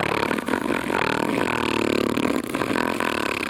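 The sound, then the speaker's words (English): A voice imitates a slow, drawn-out inward snore: a loud, continuous buzzing rasp that rumbles like a revving engine, with two brief dips before it carries on. “I've never heard snoring quite like this before, where it was just such slow, gradual snoring, but just the, you know, inner flaps, the folds of the throat, whatever the fuck it is.”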